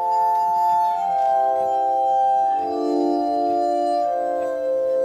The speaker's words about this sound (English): put together some tones for his commercial, and the glass music swirled around me.